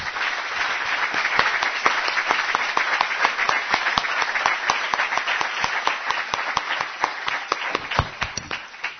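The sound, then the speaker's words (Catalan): An audience bursts into loud, sustained applause for the volunteers, at the Maristes d'Immaculada venue, many hands clapping densely and unevenly for about nine seconds with no one speaking over it. “a tots els altres voluntaris que hi col·laboren i que jo us demano un aplaudiment molt fort per ells.”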